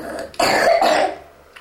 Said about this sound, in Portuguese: Ai, tanta tosse.